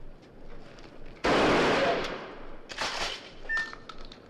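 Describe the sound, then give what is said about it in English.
A single loud 12-gauge shotgun blast, fired at pigeons during a pigeon shoot in downtown Arcola, Illinois, cracks out sharply and rings off in a decaying tail, followed a moment later by a weaker, rougher burst of noise against a quiet background. “7 men in orange vests and carrying 12-gauge shotguns walked through city streets”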